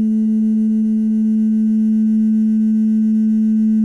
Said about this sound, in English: The synthesizer sound that you hear at the beginning is actually a glass that I had, and I made it turn into like a glass harmonica by, you know, using like wetting my finger and running it around the rim.